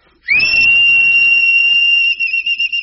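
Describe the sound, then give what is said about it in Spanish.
A person whistles at another person with the mouth, one long, loud, steady high note held for about two seconds before it wavers and breaks up, with breathy air noise underneath. “Ahí te va este chiflido.”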